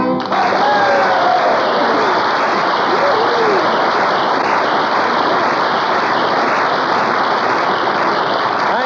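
A loud, steady jet engine roar fills the whole stretch, a dense rushing blast that holds at full strength without letup, with a faint whine riding over it near the start.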